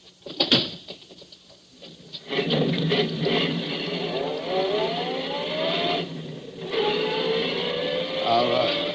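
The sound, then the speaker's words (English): A sharp thump, like a car door shutting, then an engine catches and revs, its pitch rising steadily as the car pulls away, easing off briefly before accelerating again, fairly loud. “get in the car. I'll drive”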